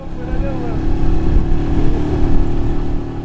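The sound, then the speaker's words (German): A motorcycle rides along a road from Port-au-Prince along the Caribbean Sea toward Léogâne, past rubble and garbage heaps, its engine droning steadily for a few seconds, with a constant low rumble and slight swells in loudness. “Auf einem Motorrad geht die Reise von Port-au-Prince am Karibischen Meer entlang an zahllosen Schutthaufen, Abfallbergen, verpesteten und mit Müll angefüllten Flussbeeten in Richtung Léogâne im Südwesten der Hauptstadt, wo das Erdbeben”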